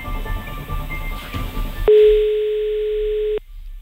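A single loud, steady telephone ringing tone sounds for about a second and a half on an outgoing call line to a radio listener, following a stretch of low muffled background noise, then cuts off abruptly.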